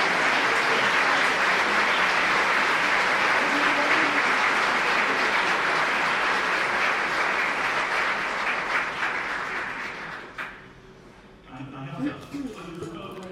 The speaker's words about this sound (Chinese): 请大家都站起来吧，这样的话大家都可以为你们鼓掌了，谢谢你们的工作。